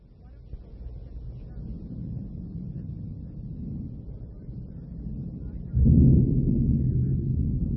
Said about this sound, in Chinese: 马车备好时，天空黑云密布，闪电大风带来了雨。